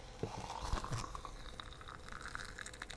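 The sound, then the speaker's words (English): Tea is poured into a cup in a steady, soft trickle with light splashing for about three seconds, a few small clinks near the start and no talking. “Let's pour that out there.”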